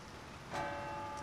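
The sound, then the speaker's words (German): A single strike of a bell striking eight times rings out with a long, humming tone that lingers over a soft, steady background hiss, on a summer evening in Munich at sunset with a dark thunderstorm front building. “Eine Glocke schlägt. 8-mal.”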